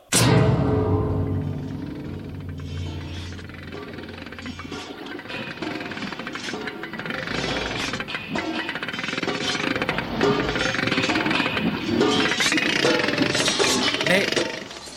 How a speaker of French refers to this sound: Mais que... Pourquoi ce marteau ? Non, pitié !